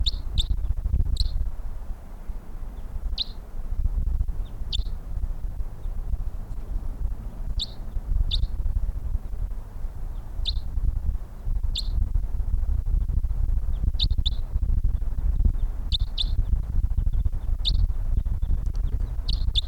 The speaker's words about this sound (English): That bird in the distance.